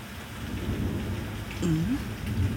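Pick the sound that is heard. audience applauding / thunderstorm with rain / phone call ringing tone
thunderstorm with rain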